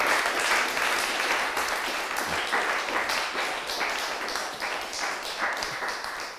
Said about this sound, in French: Je pense qu'on peut les applaudir, parce que moi, j'ai personnellement beaucoup senti de réflexions et de choses très positives. Donc merci pour la qualité de vos interventions. On peut les applaudir, je crois.